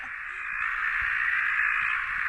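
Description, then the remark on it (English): A dense, unbroken chorus of desert tree frogs calling together at night, a loud, steady, buzzing racket that fills the whole clip with no pauses and no voices. “hasn't been calling enough for us to hear him, probably because there's so many desert tree frogs calling tonight that we're just not going to be able to hear him over the racket.”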